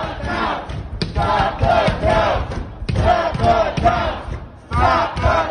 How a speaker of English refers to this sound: But that didn't stop a group of protesters, many of them white Trump supporters, from gathering outside of a polling place in Detroit and banging on doors and windows to stop votes from being counted.